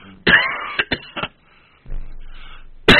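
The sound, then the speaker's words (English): A person coughs, a rough burst followed by a few quick short coughs, then a quieter pause before one more harsh cough at the end. “If I'm not talking, I'm not coughing.”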